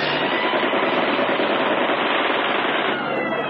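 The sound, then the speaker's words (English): Low-flying enemy American Boston warplanes strafe with sustained automatic gunfire, a dense, rapid, unbroken rattle blended with a roaring engine drone, loud and steady for the whole stretch with no voices. “And the enemy planes flying low.”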